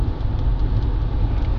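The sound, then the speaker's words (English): Rain patters steadily on a car windshield over a deep, constant engine and road rumble, with faint scattered taps from individual drops. No one speaks. “You can hear the raindrops hitting the windshield.”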